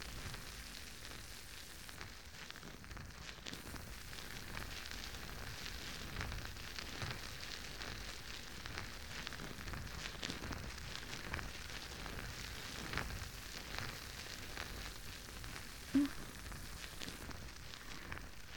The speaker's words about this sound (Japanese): 泡もすごくもちもちで、きめ細やかなので、こうやってしっかり坊ちゃまのお耳をマッサージしても、中に泡が流れ込んでいかないですし、すごくいいですよね。